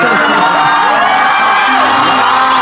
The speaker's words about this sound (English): Listen, the crowd's gonna go nuts.